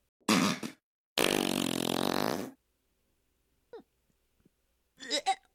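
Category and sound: human body sound, fart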